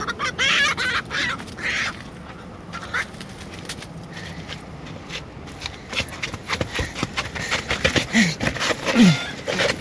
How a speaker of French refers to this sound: La poule?